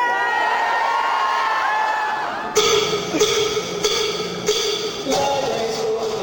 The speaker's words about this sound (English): The one that I saw was in Washington, D.C., in this huge hangar-like space at the annual convention of the American Library Association. Librarians had packed the place and were screaming and cheering.